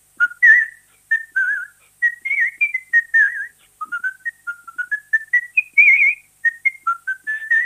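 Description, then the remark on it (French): Someone whistles a lively, tuneful film song melody, a steady run of clear pitched notes rising and falling in a bouncy rhythm, with no talking and no accompaniment. “Et puis, comme je le disais, à la fin, on arrive à la partie contemporaine de la musique sifflée.”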